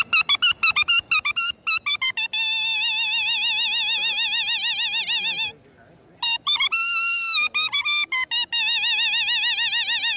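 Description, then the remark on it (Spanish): An imitation of a bellbird call: quick bursts of short, bright ringing notes give way to long, warbling sustained tones, pause briefly, then return, loud with no talking. “Ahora le voy a tocar la campanera.”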